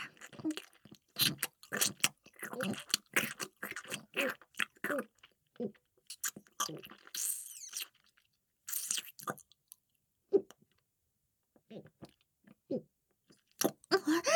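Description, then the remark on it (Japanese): Wet chewing with crisp crunching bites, dense and rhythmic for the first several seconds, then slowing into scattered, quieter chews and clicks with short pauses between them. “もぐもぐして”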